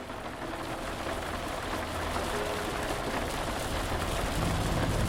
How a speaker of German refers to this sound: Während das Auto den gewundenen Weg zum Hotel der Träume entlang gleitet, siehst du, wie Regentropfen an den Fensterscheiben prasseln.